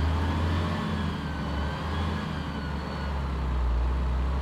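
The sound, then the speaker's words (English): The engine of a modern bus, fitted with sleeping berths below, reclining seats above, WiFi, TV and a toilet, drones steadily during a 7-hour journey: a deep continuous rumble with a faint higher whine, fairly loud, with no voices. “Während der 7-stündigen Fahrt in einem modernen Bus, ausgestattet mit Schlafplätzen unten, Liegesitzen oben, WLAN, Fernseher und einer Toilette, bekam ich einen Vorgeschmack darauf, was mich in Sao Paulo erwarten würde.”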